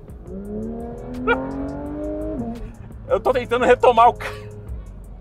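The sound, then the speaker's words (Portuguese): A sports car with carbon-ceramic brake discs and 20-inch front, 21-inch rear wheels revs up while accelerating up a hill, its pitch rising steadily and strained for a couple of seconds, then settling into a lower hum as a man starts talking over it. “Eu tô tentando fazer uma retomada aqui porque tem uma subida e ele entrega tudo isso aqui.”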